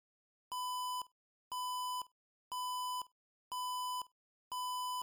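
A loud electronic alarm beeps five times in a steady rhythm, each tone lasting about half a second with a brief gap between, sharp, with no voices present, sounding through a corridor after a surveillance sensor is triggered.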